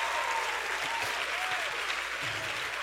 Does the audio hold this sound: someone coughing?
no